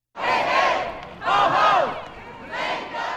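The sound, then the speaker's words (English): A crowd of protesters chants loudly in unison on the steps and in the rotunda of the Michigan State House during December's lame duck session: three rhythmic bursts of massed voices rising and falling with brief dips between, their shouts overlapping in a dense, reverberant roar. “Protesters crowded the steps and rotunda of the State House for several days of December's lame duck session.”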